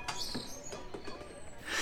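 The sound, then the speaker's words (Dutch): Small birds chirp and twitter in quick, high bursts, with a soft hiss of background noise that swells toward the end. No one speaks. “Je hoort de vogeltjes fluiten.”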